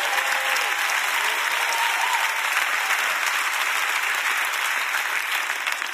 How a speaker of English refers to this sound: If you knew how crazy some Christians are, you'd be clapping better than that for the security team.